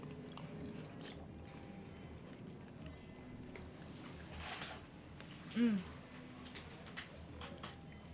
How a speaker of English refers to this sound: And you pour it into your mouth. And in this case, you're looking to chew the pearl and pop it and the oyster thoroughly, like 30, 40 chews at the same time.